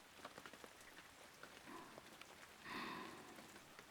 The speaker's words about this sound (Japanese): 雨まだやみそうにないよね。雨が止むまでは帰れないよね。